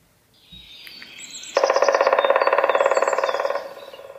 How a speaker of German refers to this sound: der Schwarzspecht kann von allen heimischen Spechten, also auch von denen, die wir jetzt nicht besprechen, die längsten Trommelwirbel produzieren